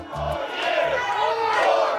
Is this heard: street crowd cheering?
yes